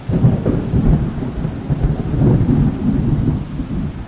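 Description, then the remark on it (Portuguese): A thunderstorm rumbles with deep, rolling thunder over steady rain, the low booms swelling and fading continuously with no voices present. “Ficou fascinada olhando para o alto e nem percebeu quando uma embarcação enorme começou a balançar diante das rajadas de vento fortíssimo, enquanto todos os humanos lá dentro gritavam e se agarravam onde podiam, tentando desviar o barco da tormenta.”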